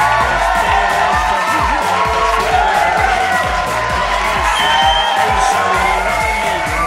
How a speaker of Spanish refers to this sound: Y antes de cerrar, dediquemos a Mickey Ferrer un fuerte y cálido aplauso en plan de homenaje.